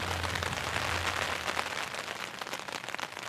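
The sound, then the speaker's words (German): Steady rain patters densely on a surface during a bicycle tour through Washington, a continuous hiss of many drops with faint sharper taps scattered through, and a low hum underneath for the first part. “Ich glaube, ich mache jetzt erstmal einen Kaffee und dann versuche ich ein bisschen warm zu werden und irgendwie Motivation zu finden, zusammenzupacken und dann den ganzen Tag lang durch den Regen zu radeln.”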